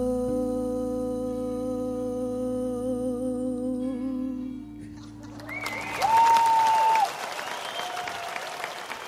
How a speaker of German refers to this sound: Applaus für …, eine Legende des Krautrock, die heute 70 Jahre alt wird.